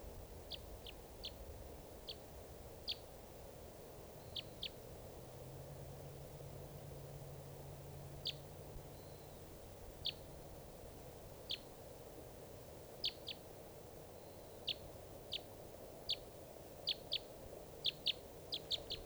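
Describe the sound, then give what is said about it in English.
A wild bird, the one still free from a flock of five being captured, calls with short, high-pitched chirps said to sound like a type three, repeated irregularly and sometimes in quick pairs or bursts, heard faintly over a steady background hiss with a low rumble. “Is that bird?”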